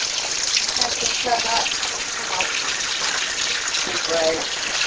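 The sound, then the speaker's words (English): Water gushes steadily and loudly throughout, a continuous rushing flow, with faint voices briefly audible beneath the noise. “We asked her if that was the same water that we're serving at the restaurant.”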